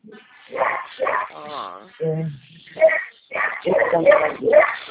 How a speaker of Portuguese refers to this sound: A senhora tem cachorrinho? Ah, sim. Então, tem dois. Quantos que a senhora tem? Ele não é meu, não. É tudo da minha filha, que eu moro com ela, né? Da sua filha? Mas é um terror.